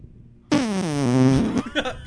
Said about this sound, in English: That was like a video game fart.